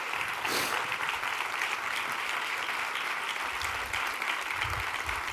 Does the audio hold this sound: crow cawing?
no